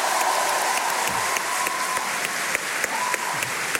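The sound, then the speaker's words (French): A crowd applauds steadily, dense clapping filling the room at a constant level for several seconds, with a brief voice or cheer rising faintly above the clapping. “Alors, on peut l'applaudir quand même. Bravo, travail.”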